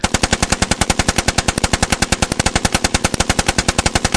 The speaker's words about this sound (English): With a shower of bullets from the Tommy gun of the mob boss, the unsuspecting second-in-command receives a swift and final punishment for secretly working with the FBI.